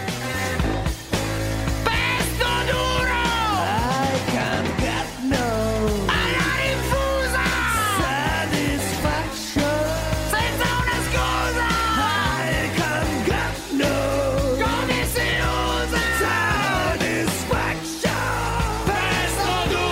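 An Italian rock song plays loud and steady throughout, with a heavy bass and drum drive under raw, shouted vocals that swoop and bend in pitch.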